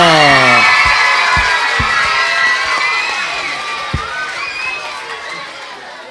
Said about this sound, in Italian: Ok, bravissimi, un applauso. Un applauso.